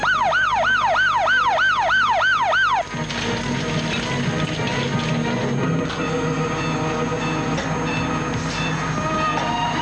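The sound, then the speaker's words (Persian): A loud ambulance siren wails in quick rising and falling sweeps for about three seconds, then cuts off abruptly, leaving a steady wash of traffic and street noise. “آمبولانس.”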